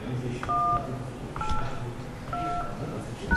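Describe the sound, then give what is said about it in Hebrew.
Three telephone keypad tones are pressed in a steady sequence while entering a password, each a short two-pitched beep about a second apart, over a low background hum. “נא קישו את הסיסמה שלכם ואחר כך תולמית.”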